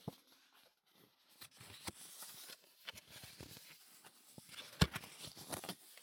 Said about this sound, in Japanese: くらいの硬さのカード、